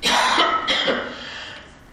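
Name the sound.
coughing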